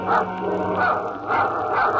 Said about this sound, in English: Suddenly, she hears Bobo's dog growling.